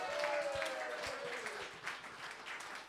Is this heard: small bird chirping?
no